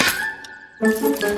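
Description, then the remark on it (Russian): Car keys jingle in two bursts: a short metallic clink, a brief near-silent pause, then a longer, louder rattling jingle, with no voices. “Не дайте ей улететь с моими ключами!”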